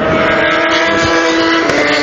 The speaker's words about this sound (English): I don't know if you heard that bike there, but that was Ellison on the WCM. It has a considerably different note than any of the other motorcycles.